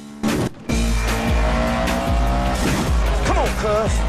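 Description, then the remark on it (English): Race car engines of an Evo, a Spider, a Corvette, a Mustang, a Dodge Viper, a Dodge Challenger, a BMW and a blue Camaro roar loudly and continuously, revving up in pitch and dropping abruptly with each rapid gear shift, with a brief tire squeal near the end. “Brian in his Evo and Pierce in his Spider lead the pack.”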